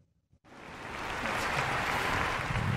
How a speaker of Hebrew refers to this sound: נתחיל עם מחיאות כפיים